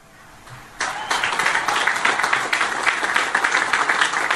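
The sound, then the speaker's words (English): A crowd of cadets breaks into steady, low-energy applause after a quiet moment, the clapping dense and even without building or any cheering, sustained flatly to the end. “By the way, very low energy clapping.”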